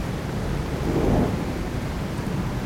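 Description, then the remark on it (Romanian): A stormy wash of rain and wind with a deep roll of thunder swelling up about a second in, rumbling low and then fading back into the steady downpour. No voices. “Furtuna a fost trimisă de Dumnezeu din cauza mea, căci am fost neascultător.”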